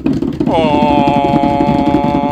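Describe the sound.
A voice imitates a drum roll before a prize draw winner is announced, a low, rapidly fluttering rumble that runs steadily for about two seconds, joined after a moment by a sustained, buzzy pitched tone.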